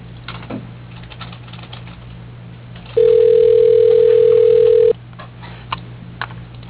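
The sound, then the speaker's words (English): Faint clicks of buttons being pressed as a cell phone is dialed, then a loud, steady mid-pitched phone tone that holds for about two seconds and cuts off, all over a low constant hum with no talking. “I'll just try the cell phone.”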